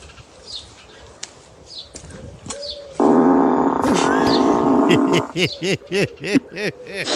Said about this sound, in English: and it locks itself, it farts, and I don't know how to turn it off. My husband and my son have done this, so if there's anyone out there who owns a Tesla who knows how to stop it from farting, will you please let me know?